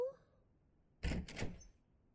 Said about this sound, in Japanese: 大丈夫。じゃあドア開けますよ。